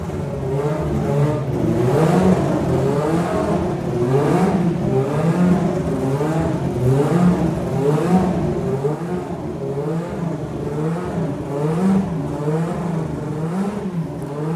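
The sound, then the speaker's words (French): A racing engine revs repeatedly during engine tuning, held in a range of about 9,500 to 10,000 rpm, its pitch rising and falling in steady cycles, loud, with a sustained harmonic whine and no voices over it. “Mise au point des moteurs. Plage d'utilisation de 9500 à 10 000 tours minute.”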